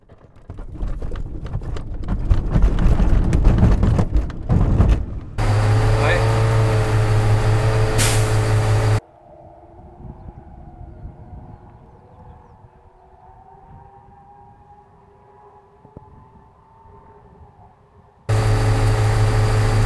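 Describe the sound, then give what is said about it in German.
Winch launch of an ASK 21 glider on the south cable, heard from inside the cockpit: a loud, rattling rumble, then a steady humming whine, a quieter stretch of droning airflow, and the loud hum returning at the end. “Doch beginnen wir mit einem Windenstart”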